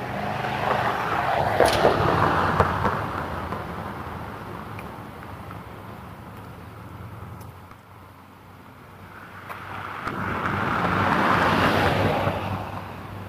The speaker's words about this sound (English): Busy traffic this morning.